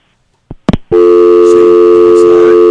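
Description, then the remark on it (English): A call-in phone line to the Media Mink show hangs up: a couple of sharp clicks, then a loud, steady electronic tone that drones without a break to the end. “No, you can hear it hanging up before it starts.”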